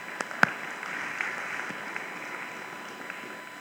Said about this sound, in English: Round of applause for our youth. Aren't they great?